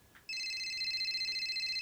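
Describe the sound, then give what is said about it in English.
A telephone rings with a loud, steady electronic trill that starts abruptly after a brief quiet moment and continues unbroken to the end, clear with no one speaking. “Hey man, is that the phone?”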